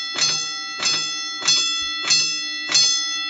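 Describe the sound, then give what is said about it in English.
A bell rings five times in a steady, even rhythm, each strike bright and metallic with a ringing tone that lingers between hits. Clear, with no voices. “Did you ring the bell for all those people?”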